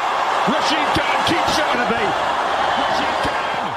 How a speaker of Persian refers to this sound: با این تشویق به دلیل پیروزی تیم گجرات تیتانز در ورزشگاه شاید بتوان آن را به عنوان هیجان انگیزترین بازی لیگ برتر هند IPL تا به این مرحله فصل شمارد.